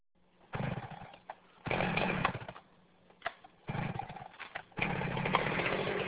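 A chainsaw roars loudly in four bursts of cutting, dropping back to a low idle between each run, with no voices. The chainsaw is being used for logging in summer.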